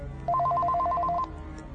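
A telephone rings unanswered with a rapid electronic warble, two alternating tones trilling for about a second before cutting off, clear over a low background hum.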